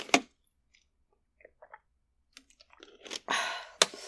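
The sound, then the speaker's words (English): Chewing of grape-flavored Pop Rocks popping candy: scattered tiny crackles and pops across a quiet mouth, sharp snaps at the start and end, and a brief wet crunching burst just before the final snap. No talking. “Okay, I'm gonna try and chew and swallow.”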